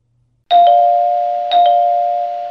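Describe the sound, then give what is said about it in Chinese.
A doorbell chimes twice, about a second apart, each ring clear and sustained with a long fading tone. The sound is loud, with no talking. “不早不晚，门铃在这个时候又响了起来，紧接着是很沉重的敲门声。”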